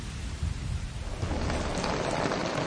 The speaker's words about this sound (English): Damn this rain, Temmin thinks.